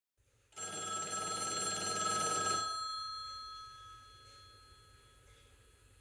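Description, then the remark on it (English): A payphone bell rings loudly in one sustained, rattling burst of about two seconds, then its metallic tone fades slowly into a quiet hum. “The payphone is ringing again.”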